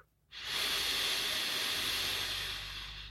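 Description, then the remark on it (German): A single long, deep breath drawn in with a steady, airy hiss during a guided breathing meditation, sitting with an upright spine. It starts after a moment of silence and holds for nearly three seconds, easing slightly at the end, with no talking. “Nimm noch einen tiefen Atemzug.”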